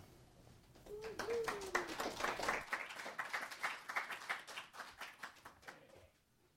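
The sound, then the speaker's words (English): An audience at a church service claps in a steady patter of many hands, full at first and then gradually thinning and fading out over several seconds, with a brief voice-like tone near the start. “Because I've been gone forever, the claps get weaker.”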